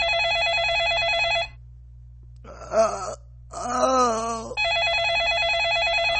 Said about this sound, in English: That phone in his house can't move. Phone in his house is ringing.